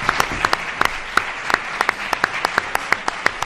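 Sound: audience applause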